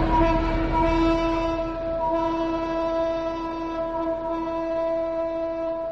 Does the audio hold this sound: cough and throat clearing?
no